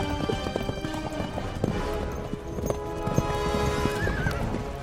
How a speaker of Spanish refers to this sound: En la llanura reinaba una calma tensa cuando, de repente, se escuchó el galope de uno de los jinetes que Mario había enviado a explorar, gritando en pánico que Yugurta se acercaba rápidamente con una gran fuerza.